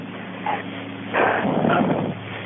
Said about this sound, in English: I've been hearing barking for a long time.